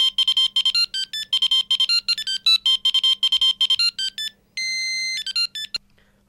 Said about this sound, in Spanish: En plena euforia, una llamada al móvil le sobresalta.